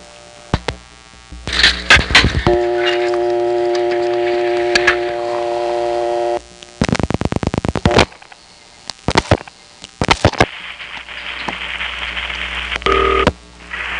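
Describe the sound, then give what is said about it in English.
A call through a step-by-step telephone exchange in New Haven, Connecticut: clattering exchange clicks and switching noise, then a steady buzzing vacant level tone holds for several seconds before a burst of rapid mechanical clicks and more line hiss. “Another call from this New Haven step features a recording that anyone who played with the phone in Connecticut will remember from the 70s, and another vacant level tone.”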